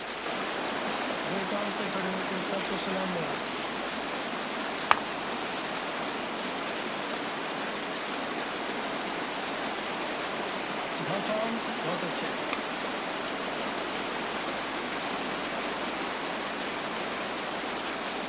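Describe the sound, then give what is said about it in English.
Steady rushing of river water flowing continuously in a river along the Arctic Ocean, a dense, even wash of sound, with a single faint knock partway through and no clear talking. “In the autumn, in the rivers along the Arctic Ocean, the salmon trout begin to migrate upstream to breed.”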